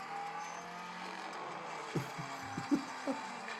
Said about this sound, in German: Aber hier, der Motor heult. Brems!